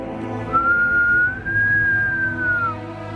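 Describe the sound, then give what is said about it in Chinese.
One long, shrill whistle holds a steady high note for about two seconds, rising slightly in the middle and dipping at the end, over a low background rumble. It is the whistle Napoleon gives in the Animal Farm story. “而就在这个关头，拿破仑站起来怪模怪样地瞧了斯诺豹一眼，然后吹了一声尖细的口哨。”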